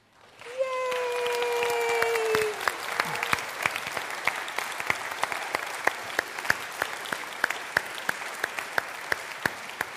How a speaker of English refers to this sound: I want to celebrate the people in this room who are graduating college. So if you are graduating college this year, if you could stand up so that we could applaud you.